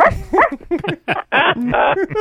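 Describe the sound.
A person imitates a small dog, letting out a rapid string of yappy barks and yips, loud, with a couple of longer, rougher barks near the middle.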